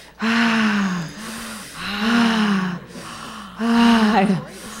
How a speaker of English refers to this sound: Now two inhales.